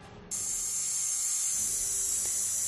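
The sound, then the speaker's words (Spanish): A dentist's drill starts abruptly and whirs with a steady, piercing high-pitched whine, loud, holding constant for a few seconds with no voices. “Parece un taladro, efectivamente, hoy más que nunca, porque anda la muela un poquito revoltosa.”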